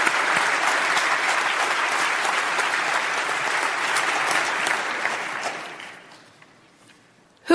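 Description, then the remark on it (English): Steady applause from a large debate audience as a speaker for the motion takes to the podium, dense clapping sustained for about five seconds before tapering off into quiet, with a sharp sound at the very end. “And a round of applause.”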